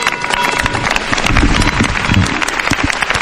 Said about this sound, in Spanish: Estos aplausos han roto el minuto de silencio en la plaza principal de Algeciras.